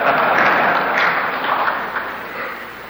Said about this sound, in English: I have to say that that's very welcome applause.